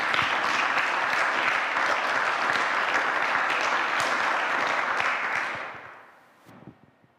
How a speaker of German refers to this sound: Danke vielmals übrigens. Ich glaube, wir dürfen denen auch mal einen Applaus geben. Das ist wirklich ganz toll.